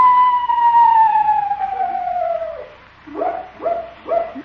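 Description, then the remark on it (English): A screech owl calls outdoors at night: a long, quavering whistle slides steadily downward, then three short, clipped hoots follow in a quick, even rhythm. No one speaks. “Leroy, what was that? Screech owl, Unc.”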